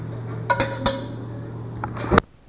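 Dishwasher racks are pulled in and out on their side runners, sliding and rattling as dishes clink in a handful of sharp, uneven clatters over a low steady hum, ending in one loud clank before falling quiet.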